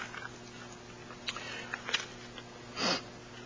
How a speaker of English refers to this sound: For me, rather than taking DayQuil to get over my sniffles